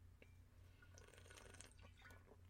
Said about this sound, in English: When we had the home church, so I was drinking water and tried to talk, which means my career as a ventriloquist is over.